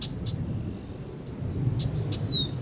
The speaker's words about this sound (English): Birds are flying back to Spectacle, and that's one of the first signs that the island is starting to support indigenous animal life again.